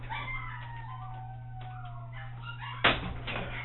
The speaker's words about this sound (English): Let me pull this door closed here just a little.